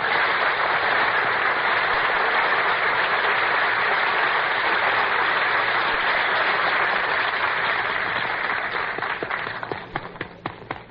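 A crowd at a radio broadcast show applauds loudly and steadily for about nine seconds as Dooley Wilson is introduced as master of ceremonies, a dense wash of many hands clapping, then it thins out into scattered individual claps as it fades toward the end.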